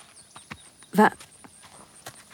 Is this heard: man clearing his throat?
no